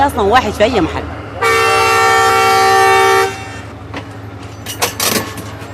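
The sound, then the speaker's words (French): A passenger train in Sudan, travelling the 500 km between Port Sudan and Atbara, sounds one loud, steady horn blast lasting about two seconds over a low engine rumble, with indistinct voices just before it and scattered clatter afterward. “Le train mettra près de 12 heures à parcourir les 500 km qui séparent Port-Soudan d'Atbara.”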